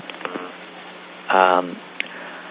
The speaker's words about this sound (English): Is someone having phone trouble? Because there's an awful lot of noise. Yeah, if anyone knows where that beeping's coming from, if you could mute your phone, that would be helpful.